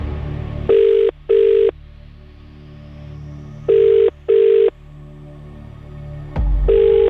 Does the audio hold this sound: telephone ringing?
yes